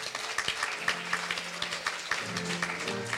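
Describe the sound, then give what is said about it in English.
A crowd of people clapping their hands together in praise of God in a steady, dense patter, with low sustained musical tones humming underneath and no one speaking. “Somebody give God a hand clap of praise.”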